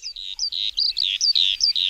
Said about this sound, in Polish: Coraz mniej i rzadziej słychać skowronki w Polsce?